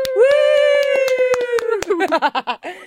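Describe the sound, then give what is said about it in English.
A few people clap for a man who has given up smoking cannabis, in scattered, uneven bursts while a voice holds a long, steady whoop, which breaks into a wavering, laughing warble toward the end. “Everybody give him a clap.”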